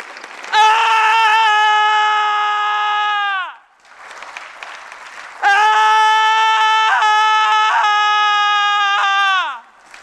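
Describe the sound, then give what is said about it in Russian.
A man, an actor, screams loudly twice about the situation in Belarus, in long, sustained, strained yells, each lasting several seconds with a short pause and background noise between them, unaccompanied by speech. “Актер призвал всех кричать о происходящем в Беларуси и сам показал пример.”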